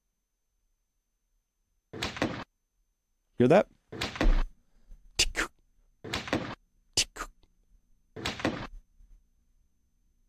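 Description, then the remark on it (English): Several sharp, loud supersonic bullet cracks ring out, some followed closely by a duller gunshot thump, spaced a second or two apart, with a person speaking briefly between them. “So this is the sonic boom right here. And then this is the thump that comes afterwards.”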